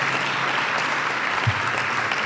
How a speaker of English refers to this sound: I didn't know you clapped for questions, but I understand this group wants to listen to this.